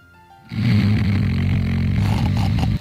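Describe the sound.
A voice imitates a man's loud, rumbling snoring like an idling tractor, a sustained guttural rattle starting abruptly after a short quiet moment and holding steady for over two seconds, forceful.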